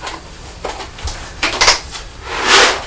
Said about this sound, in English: Biscuits coming out of the container onto the plate. That really nice noise, listen.